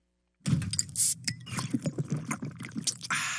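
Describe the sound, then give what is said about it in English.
After a brief silence, carbonated water is poured into a glass at the Coca-Cola Freestyle Innovation Lab in Atlanta, recreating Coca-Cola's first pour: a loud, steady splashing rush with bubbly crackles and pops for about three seconds, ending in a fizzy hiss. No voices. “When you hear the carbonated water go into the glass today, it's exactly what it would have sounded like in 1886 when they did it at Jacobs Pharmacy.”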